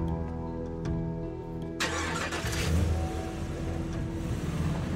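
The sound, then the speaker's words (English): A car engine idles with a steady hum, then roars to life with a loud rev about two seconds in and keeps rumbling as the vehicle pulls off. No voices. “She waves as he drives away.”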